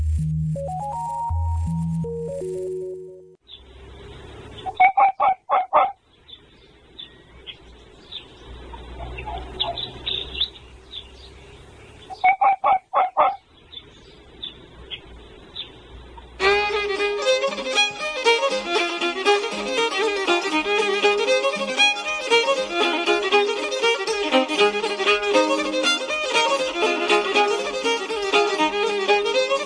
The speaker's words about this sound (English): And we kicked off just then with the sound of Mr. Fox with his characteristic bark.